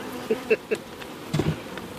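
Honeybees buzzing inside an open hive whose lid has been lifted and a microphone put in, a few short droning bursts rising and fading over a soft, steady hum, with no voices.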